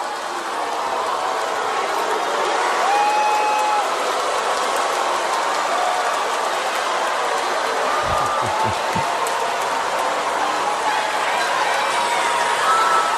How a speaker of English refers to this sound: Now, you heard the reaction at the end. Nothing but basically boos and hissing.